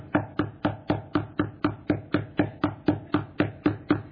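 Knocking on a door in a steady, rapid rhythm, about sixteen even knocks at roughly four per second, each a sharp, solid thud with no voices.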